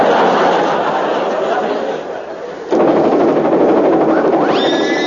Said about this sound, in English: I can hear the first puff approaching. I must go and lay out the railway lines and my combined chair.